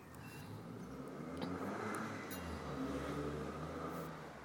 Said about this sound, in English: That's a car revving up. Ruin the engine doing that.